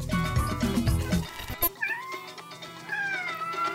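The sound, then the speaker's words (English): A pet cat named Max meows, a drawn-out wavering cry followed by a second rising call, heard clearly with no one talking. “That's my kitty cat, Max”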